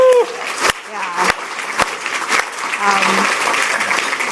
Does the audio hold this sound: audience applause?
yes